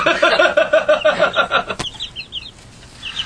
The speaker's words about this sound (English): Which one's your favorite chicken? The one being squashed in the back.